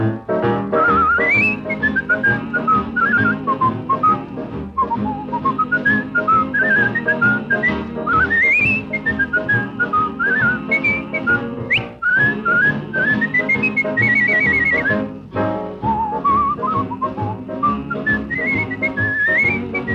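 A lively tune whistled by a person on a radio show, the bright melody gliding up and down continuously over a full instrumental accompaniment, loud with no talking.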